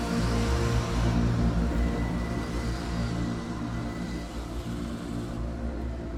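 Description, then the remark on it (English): A car and a police van speed away from school premises into heavy traffic after a man is placed in the car. Their engines make a steady, continuous, loud rumble with a dense wash of road noise throughout. “A car and police van speed away from the premises and head off in heavy traffic.”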